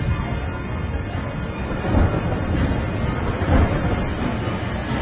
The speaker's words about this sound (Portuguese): No dia 17 do segundo mês, se arrebentaram todas as fontes do grande mar e foram abertas as janelas do céu. E caiu chuva sobre a terra durante 40 dias e 40 noites.